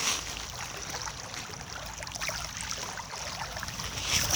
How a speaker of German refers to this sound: So, ich hoffe, man hört das leise Plätschern der Wellen.